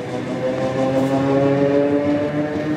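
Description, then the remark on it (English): A train headed to the Donetsk region, carrying the partners of soldiers, rolls steadily along the rails, a continuous rumble layered with sustained metallic whining tones that hold fairly level throughout, with no voices. “The women board a train headed to the Donetsk region, where the war's fiercest fighting is going on.”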